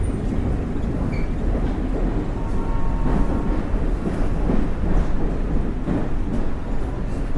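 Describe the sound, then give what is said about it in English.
Steady low rumble of a train carriage rolling along the rails, with a continuous rattling roar and faint rhythmic clatter throughout, heard from inside at a constant level. “Now here I am, sat on a train, praying people won't come near me.”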